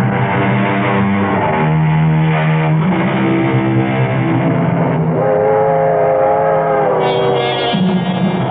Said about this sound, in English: People think that the sound of a train whistle fading into the distance is probably the most melancholy sound in the world.